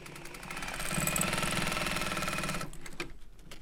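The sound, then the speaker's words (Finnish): An old, heavy-duty Juki sewing machine from Tokyo runs steadily while sewing straps for suspenders, its rapid rhythmic stitching chatter loud and mechanical before it slows and stops near the end. “Tämä ompelukone on vanhan näköinen, järeä peli.”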